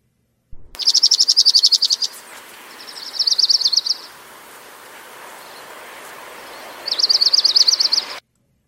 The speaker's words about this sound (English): So that was the Orange Crown Warbler, and here again is the Dark-Eyed Junko.